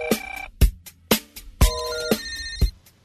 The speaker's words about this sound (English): Telephone.